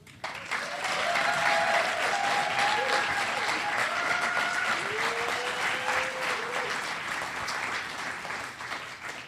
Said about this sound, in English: Thank you, everyone, for that round of applause.